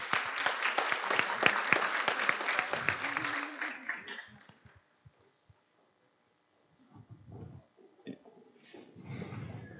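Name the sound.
hand clapping applause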